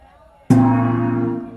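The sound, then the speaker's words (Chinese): A single loud gong strike rings out after a brief quiet moment, opening NTD's worldwide Chinese cooking competition in Times Square, New York. Its deep metallic tone sustains and shimmers without fading much. No voices are heard. “随着一声锣响，纽约的时代广场变成了大唐的长安。”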